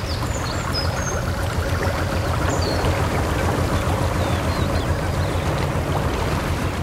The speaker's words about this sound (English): Wherever you are right now, here's a free gift from the Canal and River Trust. The calming sound of canalside life to make your day more relaxing.